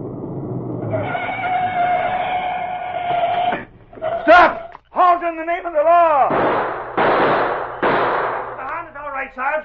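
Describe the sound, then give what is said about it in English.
A few sharp gunshot bangs crack out in quick succession, set between a steady droning tone and loud, swooping wails and shouting voices. “Who did all the shooting?”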